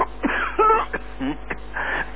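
A male radio news announcer has a coughing fit during a news broadcast: several harsh, strained bursts in quick irregular succession, with brief raspy throat sounds between them and no speech.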